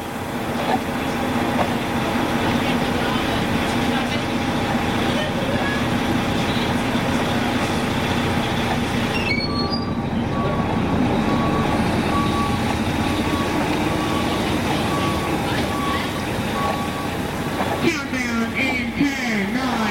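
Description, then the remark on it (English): Steady engine drone and road rumble of a moving bus from inside, part of a recreated soundscape of Canada around 1982, with a few brief high beeps partway through and some rattling near the end, no voices. “So what I did was created this audio map of Canada circa 1982, what things were sounding like on the radio, on the bus, and also life outside the bus.”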